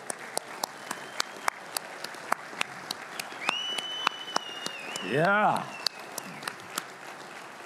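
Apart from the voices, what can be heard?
audience applause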